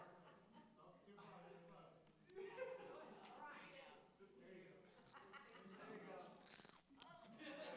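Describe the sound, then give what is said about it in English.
Crunching as someone bites into and chews a crisp, lime-flavored edible cricket, with several sharp, brittle cracks over mouth noises, loud throughout. “That's crunchy.”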